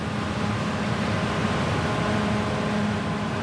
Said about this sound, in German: Direkt neben unserer Pferdekoppel ist die Weizenernte gerade in vollem Gang. Mähdrescher und Traktoren lärmen, die Pferde suchen das Weite.